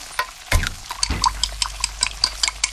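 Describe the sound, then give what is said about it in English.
Kitchen sounds with water running and dishes clinking, a couple of louder clatters early on followed by a steady run of light taps and splashes. “Can you tell if the surfaces in this kitchen are crawling with bacteria that could cause chronic arthritis? Listen.”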